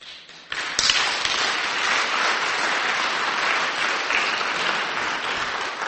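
An audience breaks into steady applause for a group's leadership, a dense wash of many hands clapping that swells quickly after a brief start and holds at an even, loud level throughout, with no voices standing out.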